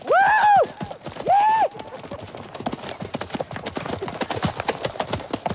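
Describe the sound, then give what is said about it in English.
Two short, high whinnies open, then a dense, rapid clatter of galloping hooves takes over, clip-clopping steadily, with several horses' beats overlapping until the end, as a group of riders race along together. “The regulators race along together.”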